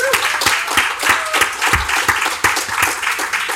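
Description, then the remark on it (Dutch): An audience applauds steadily, a dense wash of many hands clapping at a fairly loud, even level with a few sharper individual claps standing out. “Mag ik applaus voor”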